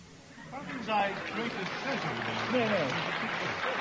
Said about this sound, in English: Now, don't keep clapping him like that. He may be the guest, but he's not right on this occasion.